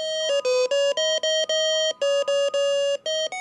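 A loud electronic hospital bed alarm, which goes off when a patient gets up, beeps out the tune of Mary Had a Little Lamb, a quick run of bright synthetic notes separated by short gaps, with no voices.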